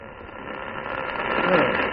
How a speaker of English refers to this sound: The interference is building up again